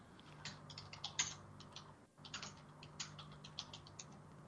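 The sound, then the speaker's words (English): Rapid, irregular clicking of keys on a computer keyboard as a man types a message during a Skype call, fairly quiet, with a brief pause midway and a low steady hum underneath. “So whether we are broadcasting or not, okay, I heard your keyboard.”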